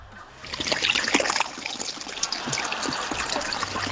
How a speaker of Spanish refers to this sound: el sonido es el agua corriendo por el canal de los tilos anoche.